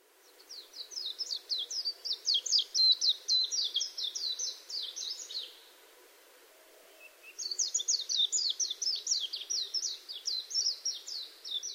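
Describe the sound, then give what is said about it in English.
A Japanese white-eye sings a rapid, rambling string of high twittering notes, pausing briefly before launching into another long, repetitive phrase, heard clearly with no talking. “The Majuro, or Japanese white eye, found in all habitats in Hawaii, rambles repetitively in song.”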